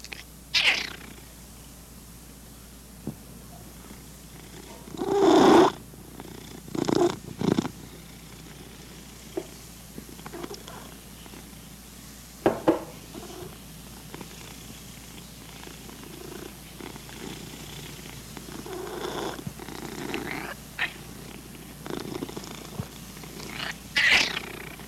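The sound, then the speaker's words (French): A pet cat named Duffy purrs steadily, a soft continuous rumbling with a few louder bursts and shifts as it breathes, with no voices present. “Notre chat Duffy ronronne.”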